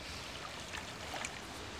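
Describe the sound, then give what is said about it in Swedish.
A stream of crystal-clear, slightly green-shimmering water flows steadily and softly, its continuous watery rush dotted with small bubbling, gurgling notes. No one speaks. “Vilket vatten, det är ju kristall.”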